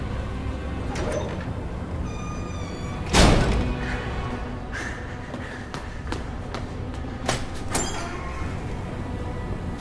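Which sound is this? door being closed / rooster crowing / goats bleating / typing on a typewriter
door being closed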